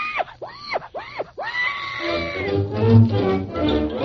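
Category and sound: animal, pig grunting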